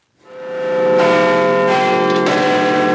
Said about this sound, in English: In London, clockmakers have been fine-tuning the bongs of Big Ben so that it can strike midnight perfectly on time and kickstart the city's huge fireworks display.